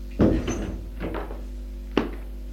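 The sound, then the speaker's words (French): A woman knocks on a wooden door in an apartment furnished Louis XV: a few dull knocks spaced unevenly over a couple of seconds, with a final sharper rap, and no one speaking. “Elle frappe une porte.”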